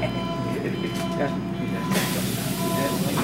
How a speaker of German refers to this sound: Ich soll nun die U-Bahn nehmen, in den Stadtteil Wedding. Viele Passagiere wirken wie Schauspieler.